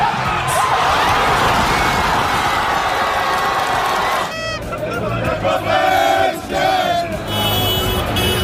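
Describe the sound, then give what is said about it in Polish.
Football fans in the fan zone in Hanover, Germany, roar and cheer as a dense, loud crowd, then shift midway into rhythmic group chanting and singing, with sustained voices rising over the steady crowd noise. “Były śpiewy, zabawa i doping przez 90 minut.”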